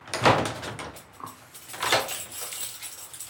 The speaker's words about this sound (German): Um dem Erfolg auf den Grund zu gehen, mache ich mich auf nach Leipzig. Nachmittags klopfe ich an eine Kirchentür.